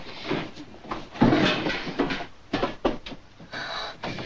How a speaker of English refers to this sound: A second floor closet. Don't tell me it has a self-locking door. It has a self-locking door.